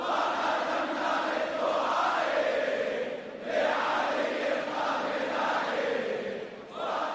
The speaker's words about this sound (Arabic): الناشطون على تويتر تناقلوا أناشيد عن السيد الخامنئي فضلاً عن مقاطع فيديو خلال لقائه بجمع من الشباب العربي وأخرى تتضمن هتافات مؤيدة لمواقفه.